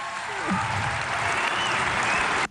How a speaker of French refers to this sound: Ouais, on peut l'applaudir.